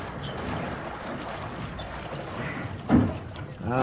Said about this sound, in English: Locker door jammed. What are you doing? Breaking open the locker door.